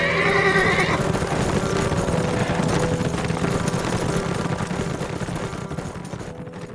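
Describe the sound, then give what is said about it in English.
A horse whinnies sharply at the start, then a steady, loud rumble of hooves and movement carries on, gradually easing off toward the end. No one speaks. “He mounted up and waved his hand. "Let's ride, man.”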